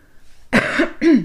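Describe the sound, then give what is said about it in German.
Someone who is still a little ill clears their throat in two quick, rough bursts, the second slightly longer, with no speech, just a short quiet pause before them. “Sorry, dass ich da immer mal wieder mich ein bisschen räuspern muss.”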